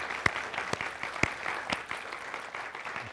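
An audience claps steadily, a dense wash of many hands with a few sharper individual claps standing out at irregular moments. The applause holds at a moderate level without voices.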